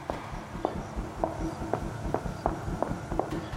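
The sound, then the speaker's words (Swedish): Fast footsteps of a woman walking much faster than usual, roughly eight sharp, evenly spaced taps in quick succession over a low rumbling background, with no one speaking. “Stegen kom tätare än vanligt, som att hon gick mycket snabbare.”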